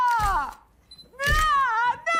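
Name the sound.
a person screaming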